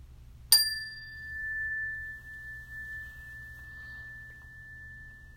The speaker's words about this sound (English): And to begin this practice, just listening to the sounding of the bell.